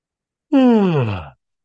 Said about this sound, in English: And I'm yawning already.